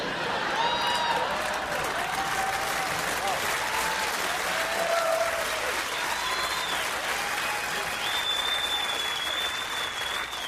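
An audience claps steadily and loudly throughout, mixed with crowd laughter and a few high whistles rising above the noise, with no break for the full ten seconds.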